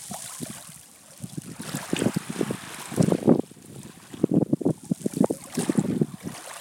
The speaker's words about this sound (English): So there we go, everyone. We're sitting on the beach now. Just on the stones.